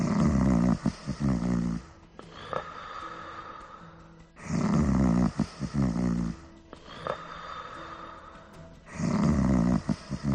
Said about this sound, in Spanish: Una noche, al pistolero le costó conciliar el sueño, porque alguien no paraba de roncar en la habitación contigua.